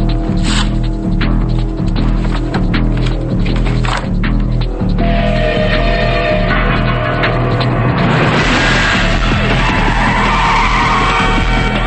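Car tires screech loudly over roaring engines as police cars race down a street, the squeal rising and sweeping in pitch as they pass, with a denser burst of skidding near the end.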